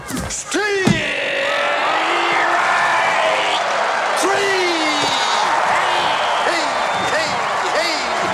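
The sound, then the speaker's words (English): A large crowd at a baseball game against the Mariners cheers steadily throughout as the umpire dances and waves to them, a dense roar of many voices with scattered shouts and whoops rising above it, loud and sustained without a break. “Frank's eyes beam behind the umpire helmet as the crowd cheers.”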